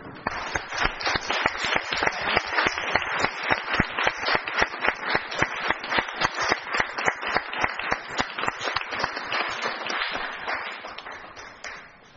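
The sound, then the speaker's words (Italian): Council members applaud steadily for about twelve seconds after a unanimous vote on a resolution, the claps dense and fairly loud throughout, tapering off slightly at the very end. No one speaks over it. “Favorevoli, unanimità anche in questo caso, e direi di fare un bel applauso.”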